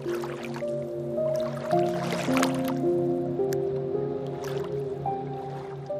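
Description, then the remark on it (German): Soft squishing and sloshing of a capybara named Kapi wading into shallow water and settling down, with small drips and splashes, heard under steady sustained musical tones; no voices. “Auch Kapi geht nun in das flache Wasser hinein und lässt sich dort gemütlich nieder.”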